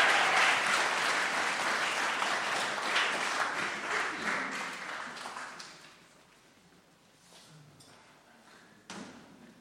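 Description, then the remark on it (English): Loud, dense applause from an audience with many hands clapping at once for people as they take their seats, fading over several seconds into scattered claps, shuffling and a few soft thumps. “Please give my lovely people a round of applause as they take their seats.”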